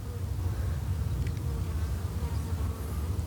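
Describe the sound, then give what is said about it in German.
A dense, steady hum of many honeybees buzzing within sight of a beehive, a continuous droning swarm sound with no pauses and no voices. “Wir sind hier in Sichtweite vom Bienenstock.”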